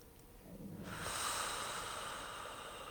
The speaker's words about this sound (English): So, let's take some breaths together. Breathing in through the nose.